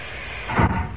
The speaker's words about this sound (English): Right now, the space between them is filled with water. Yes? But when I press this white button on the panel, compressed air forces the water out of the chamber and closes the outer door at the same time.